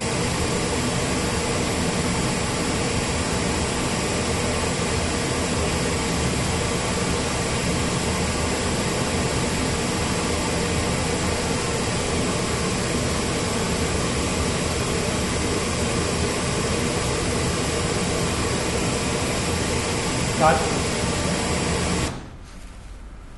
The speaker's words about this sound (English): Okay, I'm going to pop the pink noise on. We're going to do the delays first.